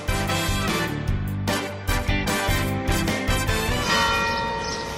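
Church bells of the churches in Albacete, beginning with the cathedral's, toll a death knell announcing the death of the Pope, loud, with repeated strikes every second or so whose ringing overlaps into a dense, continuous peal. No voices are heard.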